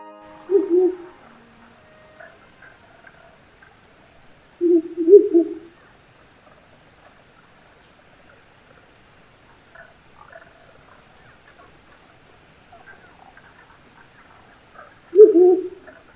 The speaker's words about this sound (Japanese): 新潟県南部の十日町市にある大厳寺高原、標高700メートルほどのなだらかな地形が続き、棚田、湖、牧場などが広がっています。夜明け前のまだ暗い時刻、フクロウの鳴き声が聞こえてきました。